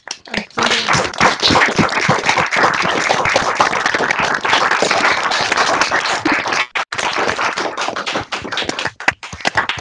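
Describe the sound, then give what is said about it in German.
Sustained group applause from participants over their switched-on open microphones, dense overlapping claps with a few sharp individual taps, steady and loud for nearly ten seconds with a brief dip near the end. “Und dann gibt es erstmal einen ganz großen Applaus für das ZF-Team.”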